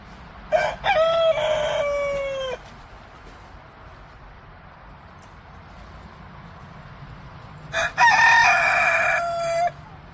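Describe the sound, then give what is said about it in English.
Leghorn chickens crow twice, each a loud, drawn-out, harmonic call lasting about two seconds, separated by several seconds of quiet background with faint low rumble and no talking. “But I gotta show you what the leghorns look like so that you can see what I'm.”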